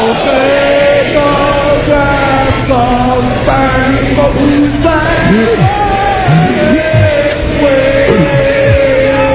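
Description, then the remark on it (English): A large crowd shouting and cheering at once, many voices overlapping into a loud, continuous roar with individual yells rising and falling throughout. “Crowd saved him.”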